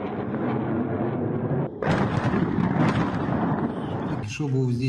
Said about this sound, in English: Just now there was another airstrike. A thermal electricity plant was damaged and a civilian building.